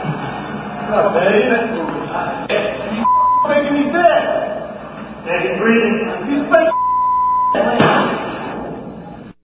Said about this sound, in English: Okay, well, I think the beeps kind of covered up a lot of what was important there.